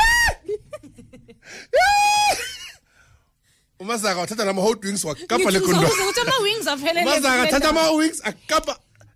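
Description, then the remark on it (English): A person imitates a panicked scream at a rat running straight toward them: two loud, shrill, high-pitched shrieks in quick succession, followed after a brief pause by rapid, excited talking. “I'm on top of my car screaming,”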